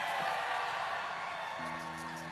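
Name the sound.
crowd cheering and whooping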